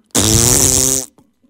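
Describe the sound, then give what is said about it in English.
A loud, buzzing raspberry blown with the lips, a fart imitation made by a voice, lasting about a second with a rich, rattling tone, followed by a faint click. “I made a fart noise with my mouth.”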